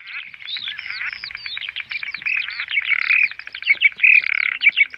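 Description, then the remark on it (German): Loud, dense bird chirping fills the scene, rapid overlapping tweets and trills mixed with frog croaking, continuous with no talking, heard by visitors in a dark corridor exhibit at the Haus der Flüsse in Havelberg. “Das lautstarke Gezwitscher und Gequake hören die Besucher im Dunkelgang im Haus der Flüsse in Havelberg.”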